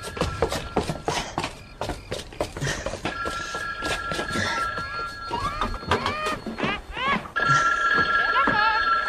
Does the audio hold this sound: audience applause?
no